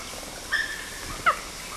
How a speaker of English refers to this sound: These adult male CW squealing and then giving a few low amplitude quists, and I think LB gave work toward the end. LB barking, CW now squealing.